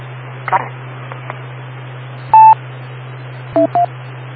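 An amateur radio repeater gives a single steady electronic beep, then two shorter two-tone beeps in quick succession, all over a constant low hum and radio static hiss.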